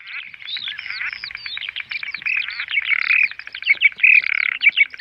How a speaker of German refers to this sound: Das lautstarke Gezwitscher und Gequake hören die Besucher im Dunkelgang im Haus der Flüsse in Havelberg.